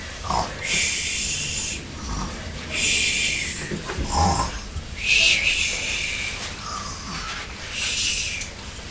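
A person snoring in a slow, steady rhythm: four breathy, rasping bursts spaced a couple of seconds apart, each a hissy rush of air with a low rumble underneath, moderately loud.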